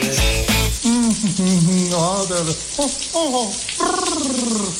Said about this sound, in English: Did you just turn on some water someplace? No, why? Well, there's no hot water.